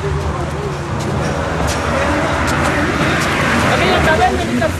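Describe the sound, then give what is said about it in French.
Steady, dense roar of traffic on the four-lane Pan-American Highway, heard while crossing it by a metal footbridge, with engines droning continuously and vehicles rushing past, a constant loud wash of road noise throughout. “Alors là, on va traverser la panaméricaine qui est là en face de nous, la 4 voies, par une passerelle en ferraille.”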